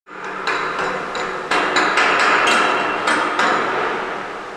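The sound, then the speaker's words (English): Busy boat workshop sounds: sharp, irregular hammer strikes ring out over a steady, loud crackling hiss of welding as men work on boat parts inside a giant, unheated commercial workspace at Sitka's marine haulout on a cold, snowy day, with no voices heard. “Inside the giant, unheated commercial workspace, I can still see my breath as men weld and work on boat parts around me.”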